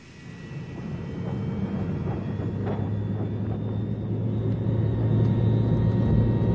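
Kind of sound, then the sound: vehicle, airplane engines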